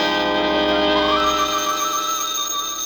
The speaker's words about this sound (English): I came out of it, the phone was ringing.